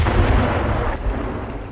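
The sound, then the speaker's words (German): A heavy artillery gun fires in a video game, a deep booming blast with a rumbling low-end tail that stays loud and dense throughout, with no voices. “Gut, dann nochmal Artillerie einmal.”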